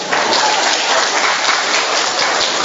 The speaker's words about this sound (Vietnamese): Rồi, lên một tràng pháo tay chào mừng những người đậu gốc.